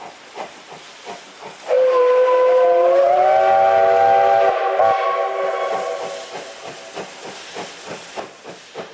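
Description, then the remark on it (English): A coal-fired steam locomotive chugs at speed along a 2-mile straight stretch of single track at 40 to 60 miles an hour with rapid rhythmic puffs, then a loud, long steam whistle blasts for a few seconds before fading back into the steady chuffing of the train. “And so they were running a little behind, and so the engineer was putting the coal to her and picking up steam, flying down that straight stretch just as fast as he could, 40, 50, 60 miles an hour.”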